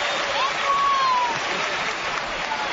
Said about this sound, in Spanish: Está el público aplaudiendo a Andrés Iniesta.